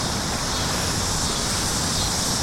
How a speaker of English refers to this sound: The cicadas are very loud, aren't they?